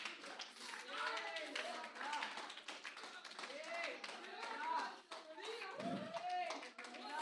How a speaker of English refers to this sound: Shout to the Lord! Stomp your feet, clap your hands, all ye people!